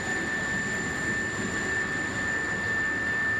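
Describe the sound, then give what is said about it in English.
A helicopter delivering aid runs with its rotors turning, giving a steady, loud roar and a high turbine whine that holds constant throughout with no voices. “It looks like the children may be having a little bit of fun with some of the air generated by our rotor blades.”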